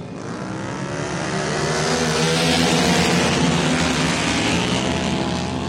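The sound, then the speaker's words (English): A pack of racing motorcycles roars around turn one of a quarter-mile dirt track at about 100 miles an hour, the engines blending into a loud, continuous buzzing whine that swells to a peak midway and then holds steady, with no talking. “They're getting ready to roar around turn one.”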